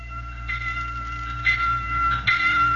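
A warning bell rings out with repeated metallic strikes at a steady, unhurried pace, fairly loud over a low background hum, with no voices.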